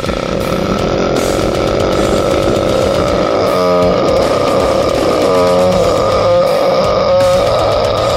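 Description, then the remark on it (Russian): A single voice strains out a harsh, raspy growl attempt, half roar and half grunt, pushed as strong and loud as possible, sustained with a rough buzzing texture and a few brief pitched bursts breaking through. “Ну, получается какой-то непонятный такой полурык, полухрюк.”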